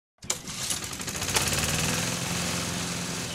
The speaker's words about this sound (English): Oh, finally, it's working. I finally finished now. I got the lawnmower out and ready for the spring and summer season.